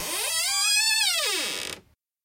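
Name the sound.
door creaking open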